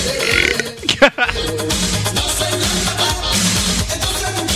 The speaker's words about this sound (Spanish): Ha eructado como una fiera